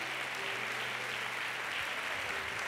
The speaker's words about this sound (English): Give the Lord a hand clap, praise, and we're done.